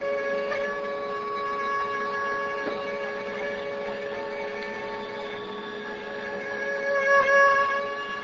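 A female Asian tiger mosquito in flight: a steady, high-pitched whining buzz with a rich harmonic tone, continuous for the whole clip and swelling slightly louder near the end, with no voices.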